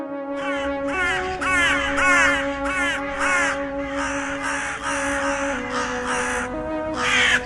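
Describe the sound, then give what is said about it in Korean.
A dense flock of crows caws harshly and continuously, many overlapping calls bursting in quick, squabbling rhythm as they fight each other over the skulls of corpses left by Martians, loud, with no talking. “사방이 까마귀 천지였다. 놈들은 화성인이 먹고 버린 시체들의 해골을 차지하려고 서로 싸움질을 하고 있었다.”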